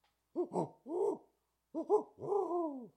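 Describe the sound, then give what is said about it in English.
A person imitates a barred owl call, giving two phrases of rising and falling hoots, the second ending in a long drawn-out descending call, clear against silence. “That was actually me doing a call.”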